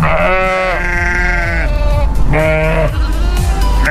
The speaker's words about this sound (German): wenn Elmar versucht, ein Gespräch anzufangen, blökt es fröhlich zurück. Elmar ist nämlich Wanderschäfer.